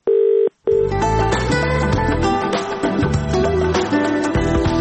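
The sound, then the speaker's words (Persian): A steady telephone line tone from Radio Azadi's automatic answering machine sounds for about half a second, clear and loud, then cuts off and is quickly followed by full, busy music filling the rest. “حالا توجه نمایید به پیام های ثبت شده در تلفن اوتومات رادیو آزادی.”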